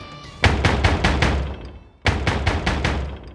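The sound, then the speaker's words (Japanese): Violent, rapid pounding on a toilet door, struck from outside by a black shape, comes in two frantic bursts of about six heavy blows each, loud, separated by a brief pause. No voices. “そう思い蹴破ろうとした途端、外の黒い塊が狂った女のような声を上げながらトイレの扉にぶつかり、扉を壊さんばかりの勢いで乱打し始めた。”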